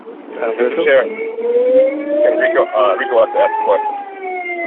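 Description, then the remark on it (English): A siren wails in the background of a call participant's line, its tone rising slowly and steadily, sounding thin and band-limited over the phone line, with indistinct voices talking over it. “Somebody has a siren in their background.”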